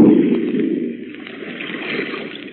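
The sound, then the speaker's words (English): A steady, dense rush of churning water with low gurgling and bubbling, fairly loud, as a ship slips under the surface in its final plunge; no voices. “Look, it's sinking. By George, the final plunge. There she goes.”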